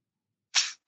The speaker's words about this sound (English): you start to hear something ahead of you, and it sounds like gunfire.